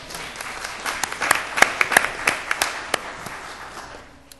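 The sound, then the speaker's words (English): A room full of people claps for a few seconds after being told they collected over $1,800 for missions during 2007. Sharp individual claps pop out over a steady wash of applause that builds, peaks, then tapers off at the end. “I believe that deserves a round of applause.”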